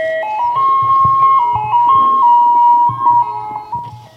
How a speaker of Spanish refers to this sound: Entonces escuché algo, el carrito de los helados.